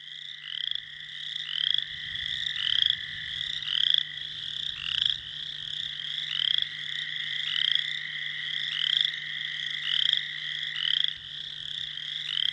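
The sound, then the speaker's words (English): A dense chorus of male chorus frogs calls steadily to attract females, overlapping trilling croaks repeating about once a second, loud, with a faint low hum beneath and no talking. “And to get a sense what these male chorus frogs may be doing to attract these female chorus frogs, just to give you a prelude to their performance, let's hear from our male chorus of frogs right now.”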